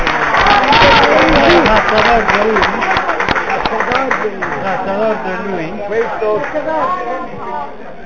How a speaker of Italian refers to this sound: che è lei, ci vuole un applauso.